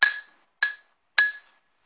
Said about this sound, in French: Il entendit sonner 22 heures à l'horloge.